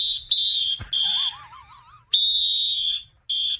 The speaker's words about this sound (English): They're blowing whistles.